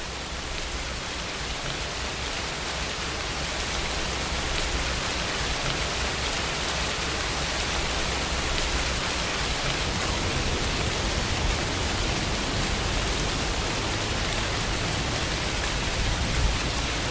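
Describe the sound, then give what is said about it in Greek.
Recorded steady rain hisses without pause, a dense, even wash of droplets spread across the whole sound with a low rumble underneath, continuing unchanged for the full stretch with no voices. “Ξαπλώνουμε τώρα και ακούμε τους ήχους της βροχής που θα σας βάλουμε.”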